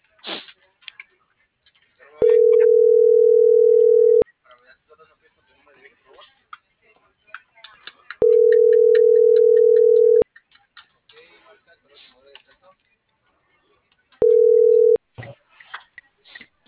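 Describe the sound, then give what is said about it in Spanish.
A loud, steady telephone line tone sounds in three bursts of about two seconds, separated by longer pauses, with faint background chatter and noise in the gaps, as a call fails to go through. “¿No me deja marcar?”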